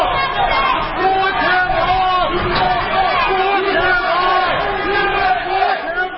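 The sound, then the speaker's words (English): A dense protest crowd outside the U.S. courthouse in Washington at Michael Flynn's departure after his sentencing was postponed: critics chanting "Lock him up" and Flynn supporters shouting "USA", many voices overlapping in a loud, continuous roar with rhythmic rising calls and scattered yells throughout. “courthouse in Washington for Michael Flynn's departure was a mix of critics, some of them chanting, "Lock him up," and also supporters of Flynn shouting, "USA."”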